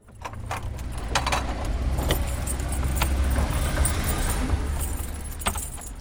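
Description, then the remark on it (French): Keys jangle and scrape against the door lock of a stone house in a series of sharp metallic clicks and rattles, over a steady low rumble of background noise. “On a déjà cassé un verrou comme ça.”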